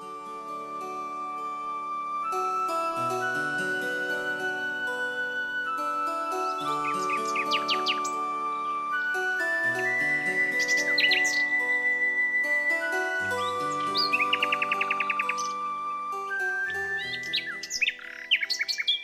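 Small cage birds chirp and squawk in scattered bursts, including a quick buzzing trill, over a steady background of sustained musical tones.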